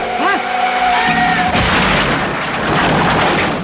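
A warbling screech gives way to a loud crash of metal as a car crashes, followed by a long spray of shattering glass and tinkling debris that keeps rattling for a couple of seconds.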